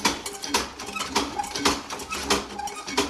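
A motorized mechanical model warship with aircraft and cannons, at the museum La Fabuloserie in Dissy, runs with a steady clattering motor that turns its propeller and crocodiles, punctuated by sharp, irregular knocks and clicks from its cannons, moderately loud with no voices.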